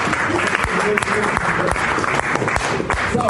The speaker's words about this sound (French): Ici, le journaliste applaudit en intervenant à l'issue d'une séance des questions-réponses, en signe de leur intérêt pour les thématiques abordées.